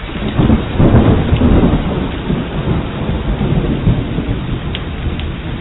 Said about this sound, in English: It started raining, and it rained, and it rained, and it rained, and it rained.